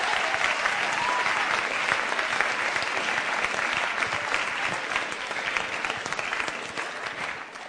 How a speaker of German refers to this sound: Großen Applaus.